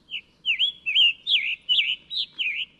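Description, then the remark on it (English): A bird call played from a bird-sound app on a phone: a quick, regular series of about seven bright, slurred chirps, each rising and falling in pitch, clear with no talking. “Thousands of bird calls right in your pocket.”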